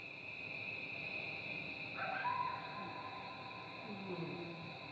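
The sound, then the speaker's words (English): A coyote's wavering howl rises out of a steady, high chorus of crickets, its call trailing off into a long, echoing reverb tail that lingers for about 4 or 5 seconds. “And then one other coyote clip I'm going to use, or show you. This has some crickets over top of it, but this, the echo is just crazy.”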